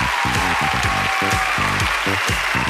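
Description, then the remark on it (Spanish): Steady audience applause fills the whole stretch, a dense, continuous clatter of clapping, with a strong pitched voice or musical tones riding over it in short bursts. “¡Aplausotes!”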